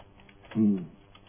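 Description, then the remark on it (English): A brief, muffled burst of typing on a computer keyboard, lasting under half a second amid a quiet low background, with no talking. “Yeah, I was typing.”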